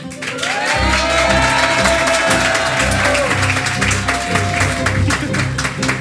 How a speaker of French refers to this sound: On va faire simple par applaudissement. On va savoir justement qui mériterait de justement revenir dans le prochain épisode de Mic Up.